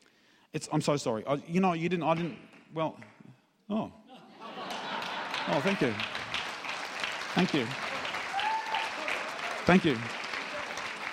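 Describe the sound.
A man speaks briefly, then an audience breaks into sustained, steady applause for several seconds while his voice continues intermittently over the clapping.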